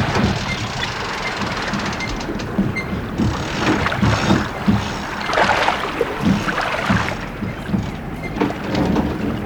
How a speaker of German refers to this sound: Er sitzt dran, Captain! Holt die Trasse ein, Leute! Zieht den Hai an Bord! Und rein! Die Winde!